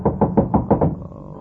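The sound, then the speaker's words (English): A quick, even series of about six solid knocks on a door, fairly loud, with no voices, then a brief quiet tail. “Somebody at the door.”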